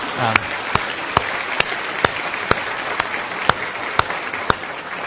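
A crowd applauds steadily, a dense wash of clapping with a few sharp, close claps standing out at a regular beat, holding at a fairly loud level throughout with no talking.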